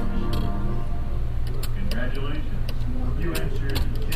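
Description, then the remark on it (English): The embossing head of a new Braille writer moving across a page gives a run of sharp, irregular mechanical clicks and taps, some in quick pairs, over a steady low background murmur. “like the, I guess, I think our listeners probably know on the new Braille writer, just the little embossing head moves across mm-hmm. the page.”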